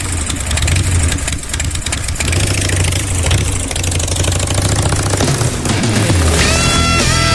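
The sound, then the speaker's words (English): The engine of a 2016 Amber Whiskey Harley-Davidson Street Glide motorcycle idles loudly with a steady, throbbing pulse, then revs up near the end, its pitch climbing. No one speaks. “Your tickets now to win a beautiful 2016 Harley-Davidson Street Glide motorcycle.”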